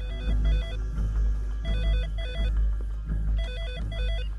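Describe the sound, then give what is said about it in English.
Lynn McGill's desk telephone at CTU rings with an electronic, warbling trill, three ring bursts in steady rhythm, clear over a low background hum, with no talking. “At CTU, Lynn McGill's phone rings on his desk.”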